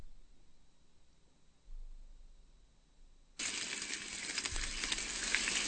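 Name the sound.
bacon frying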